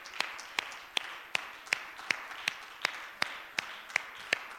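A crowd at a church worship service claps hands to the Lord in praise, in a steady, brisk rhythm, roughly two claps per second, sharp and even over a soft background wash of room noise, with no talking.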